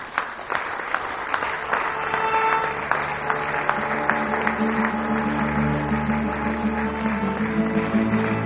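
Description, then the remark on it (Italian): An audience applauds steadily to welcome the conductor, maestro Erasmo, a dense, even wash of clapping with sharper claps popping out, while sustained musical tones hum beneath it. “Un bel applauso per il maestro Erasmo!”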